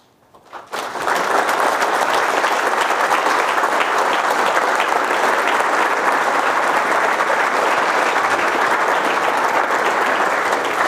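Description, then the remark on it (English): Loud, sustained applause from an American audience starts abruptly after a brief quiet moment and continues steadily as dense, crackling clapping from a large crowd, with no voices standing out. “You Americans are a curious people. You applaud your own demise.”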